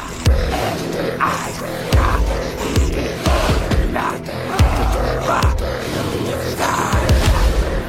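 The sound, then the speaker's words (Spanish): Low, rough grunting vocal sounds repeat every second or so in the background of loud, dense music with a steady pulsing beat, with no speech. “Y luego ya tendríamos los gruñidos que estamos escuchando de fondo, que eso yo imagino que es como una especie de ya funciona más en el apartado lúdico, digamos de esa forma, porque cuando suena esta música normalmente estás en batallas”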